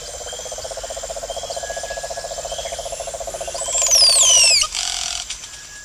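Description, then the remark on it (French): Dense rainforest ambience in the Peruvian Amazon: a steady pulsing chorus of frogs or insects with a high constant buzz, then a few bright, descending bird whistles rise over it near the end. “Il y a des singes, des oiseaux, des colibris.”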